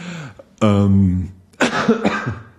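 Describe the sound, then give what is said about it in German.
A few harsh coughs in quick succession, the first one drawn out and raspy, followed by a rougher burst of coughing with a throaty, strained edge. “Aber da immer noch ein bisschen husten.”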